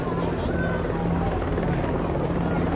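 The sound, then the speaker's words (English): At least five or six helicopters drone steadily overhead above a street march around Vine and 13th Street in downtown Philadelphia, a continuous low rotor rumble mixed with broad wind-like noise that holds at an even, fairly loud level throughout. “Helicopters, at least five or six helicopters.”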